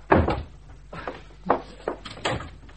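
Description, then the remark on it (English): A wardrobe door being opened: a firm wooden clunk, then several shorter rattles and knocks as the door swings and settles, with no voices. “Oh, the wardrobe. Go on.”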